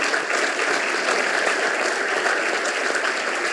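A crowd applauds steadily at the inauguration of a new building, a dense, even wash of many hands clapping at constant loudness for the whole few seconds, with no voices standing out.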